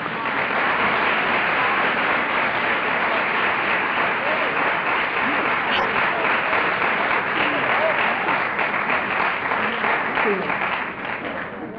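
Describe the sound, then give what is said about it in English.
Sustained audience applause for a group of ladies and for the audience's own sobriety. A dense, steady wash of many hands clapping holds at a loud, even level for about twelve seconds before easing slightly at the end. “How about a big round of applause for these ladies?”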